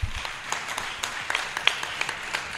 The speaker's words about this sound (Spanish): por favor, un aplauso.